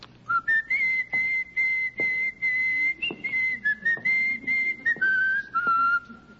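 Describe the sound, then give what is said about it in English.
A person whistles a steady, march-like melody, the Marine hymn, clear, with short breaks between phrases and a few faint knocks in the background. “What's that what for? The whistling.”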